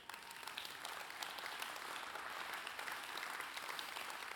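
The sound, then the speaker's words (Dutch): An audience at a Christian conference applauds steadily during a talk, a dense wash of many hands clapping at an even, sustained level throughout, with no speech over it. “Daar mag je voor klappen hoor.”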